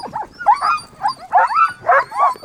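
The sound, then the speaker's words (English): Nick Petit's team of 14 excited sled dogs, just in from a long run at the Iditarod checkpoint of the Iditarod race, bark and yip in harness in quick, overlapping bursts, loud, with whiny high-pitched cries between barks and no talking. “Nick Petit had just come off a long run, but his dogs had their tails up, leaping in their harnesses, looking like they could keep running all the way to the Yukon.”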